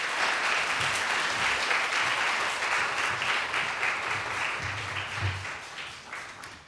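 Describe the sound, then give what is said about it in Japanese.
A church audience applauds to welcome a guest preacher, many hands clapping in a dense, even wash of sound that holds fairly loud for several seconds and eases slightly toward the end, with no talking over it. “皆さん、感謝ということで、神様に感謝、先生にも感謝、両方感謝で拍手で迎えましょう。”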